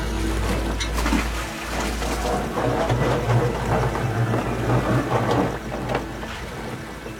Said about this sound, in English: So we had a heavy rain today and yesterday. So our lagoon is full and then our water is flowing into the sea. There are a lot of sounds of water moving around the rocks.